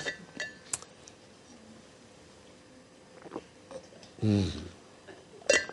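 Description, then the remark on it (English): A few sharp, bright glass clinks ring out at scattered moments against quiet background, with a brief throaty sip-like sound in between. No one speaks. “I don't think you're allowed to drink and preach at the same time.”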